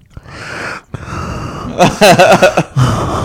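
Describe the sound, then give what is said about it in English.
Loud, rasping gasps of breath, a few long heavy inhales in a row, with a brief voiced, strained sound in the middle before the breathing resumes; a person breathing loudly as a catchphrase. “breathing loud.”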